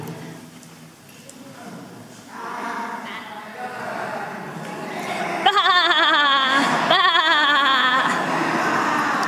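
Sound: flock of sheep bleating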